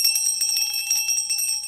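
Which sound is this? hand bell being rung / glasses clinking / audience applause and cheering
hand bell being rung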